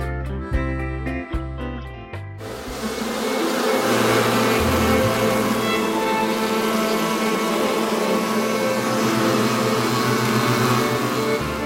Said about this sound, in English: This bee sound and soundtrack behind me there